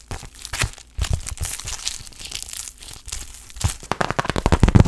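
Paper tearing and crinkling as sheets are pulled apart and separated, with sharp rips and crackly rustles coming in irregular bursts, growing busier and louder toward the end. No talking.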